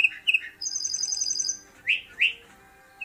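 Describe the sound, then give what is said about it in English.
A lark bunting (Calamospiza melanocorys), the state bird of Colorado, sings alone, mixing sweet slurred whistles with a high, rapid buzzy trill, then two rising whistled notes near the end, clear over a faint background. “The bird known as the troubadour of the plains is the state bird of Colorado, and today's Talkin' Birds featured feathered friend, Calamospiza melanochoris, the lark bunting.”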